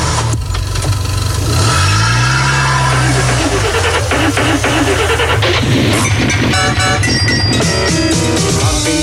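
A car engine revs with a rising, throaty roar in the opening seconds, then fades under loud, busy music with a steady beat that carries on to the end.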